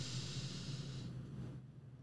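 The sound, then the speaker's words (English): A slow, deep breath drawn in during a guided breathing exercise with eyes closed, a soft airy hiss lasting over a second before trailing off, with a faint low hum underneath and no talking. “Take a deep breath.”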